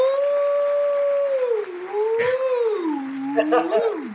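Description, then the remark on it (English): A long, wavering wolf-like howl, apparently a human voice imitating one, sliding down in pitch and rising again, combined with a few short, sharp bursts of self-congratulatory applause near the end. “Yeah, it's a combination wolf howl and self-congratulatory audience replacement.”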